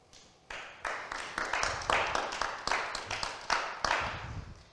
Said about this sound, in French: Alors, il y a moins d'applaudissements que d'habitude, je peux vous le dire. Ça fait très, très bizarre, parce que d'ordinaire, cet amphi est plein. Et bon, bah là, on est 6. 7 avec moi.